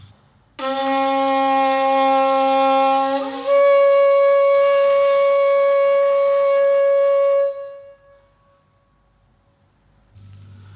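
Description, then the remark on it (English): A Syrian bock, a horn made from an ibex horn, is blown in one long, loud, buzzy blast: a low note for about three seconds, then a jump to a higher, brassy pitch held for four more before it fades. “Next to it is a Syrian bock made from an ibex horn. It sounds...”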